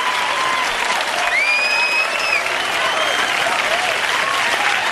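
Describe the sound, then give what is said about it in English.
Steady, dense recorded applause from the audience of a musical, a sustained wash of clapping with crowd noise, and a high whistle rising and holding briefly partway through. “That crowd loved it far more than ours did.”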